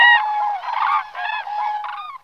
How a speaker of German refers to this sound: Das können teilweise hunderte von Vögeln sein, die so ganz lange Ketten bilden. Und das verbunden mit diesem Kranichruf, mit dem Trompeten, das ist einfach traumhaft.